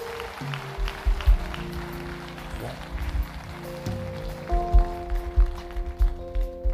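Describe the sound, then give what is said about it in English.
An audience at a prayer service clapping their hands in a steady rhythm over sustained organ chords and a thumping low beat, the claps coming as repeated sharp bursts throughout. “Come on, clap your hands if you will.”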